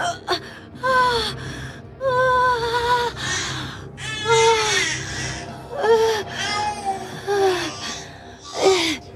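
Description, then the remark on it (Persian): A newborn baby girl, just born, cries in a string of short, strained wails broken by gasping breaths, fairly loud throughout, with no talking. “بچه داره به دنیا میاد. پتو رو بیار.”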